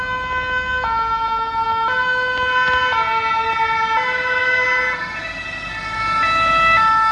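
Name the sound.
emergency vehicle siren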